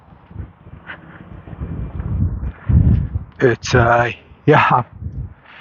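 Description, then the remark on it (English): Gusty, chilly wind on a partly cloudy April morning in the High Plains east of the Rocky Mountains at Gray, Colorado, buffets the microphone with a low, uneven rumble that swells and fades, followed by a few loud, harmonic voice-like bursts near the end. “It's breezy. It's downright windy.”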